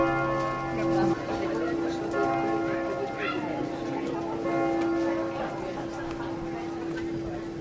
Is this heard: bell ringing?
yes